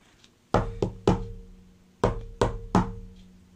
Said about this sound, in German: Und dann klopft er an der Tür.